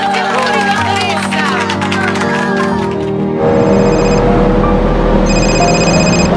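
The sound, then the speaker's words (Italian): A telephone rings in two electronic bursts, bright and fairly loud, over a busy background, after a stretch of overlapping voices and bustle at the start. “Rispondere al telefono non è un incidente, è una scelta.”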